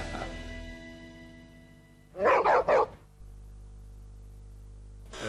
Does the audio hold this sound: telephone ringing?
no